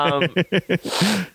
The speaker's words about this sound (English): There's tissue and toilet paper in front of you if you would like to blow your nose, buddy. I heard. I'm kind of liking the rubbing it with my finger and snort and sniffing. And snorting.